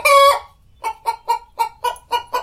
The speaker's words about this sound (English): I think that some people are hearing chickens. I'm not. I hear like the remnants of a bawk. Yeah. Which is brief remnants of a bawk.